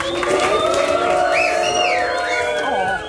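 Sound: audience applauding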